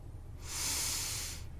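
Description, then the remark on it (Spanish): One exaggerated, drawn-out breath through the nose, a hissing rush of air lasting about a second, with no talking over it. “¿Por la nariz?”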